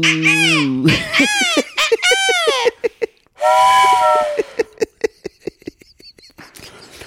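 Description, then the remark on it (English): A voice imitates the whistle of the GERT train, a magic train, with several loud, wavering hoots that bend up and down in pitch, followed by a rhythmic series of chuffing puffs fading off, alone. “Bust out of the ocean, GERT train.”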